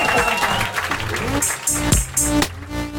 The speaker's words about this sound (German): Ihr könnt jetzt in die Hände klatschen oder sowas.